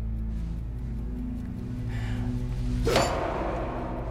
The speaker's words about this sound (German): Sagen Sie sie laut, wenn ich auf den Tisch klopfe.